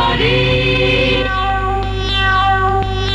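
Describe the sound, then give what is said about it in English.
A cat meows loudly in a long, drawn-out yowl whose pitch bends up and down for about three seconds, with a steady low hum underneath. “Let the cat in.”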